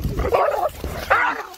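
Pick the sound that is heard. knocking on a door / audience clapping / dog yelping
dog yelping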